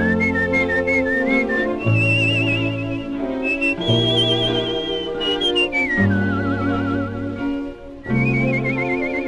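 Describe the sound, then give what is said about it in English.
A lively whistled melody by a singer, with warbling vibrato, rises and falls in long, improvised phrases, carried loud over steady band accompaniment. “… and people in that period were just as likely pretty much to do it by whistling”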